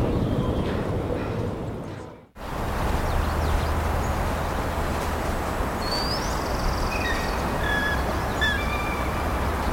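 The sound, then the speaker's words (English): Red-winged blackbirds in a Wetland Project field recording give scattered short check calls and a few thin, rising alarm whistles over a steady rushing outdoor background. No one speaks. “The chorus of the morning bird song is now over and is replaced by the intermittent check calls and alarm whistles of the red-winged blackbirds.”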